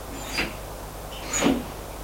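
household object, door being closed

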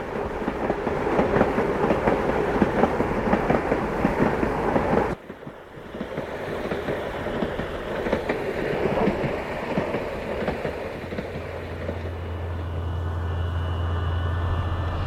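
vehicle, train running on rails

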